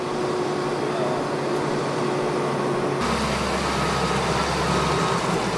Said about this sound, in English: The dozer dump dance will continue day and night, with trucks often resembling planes lined up on the runway at LAX, waiting their turn to move ahead.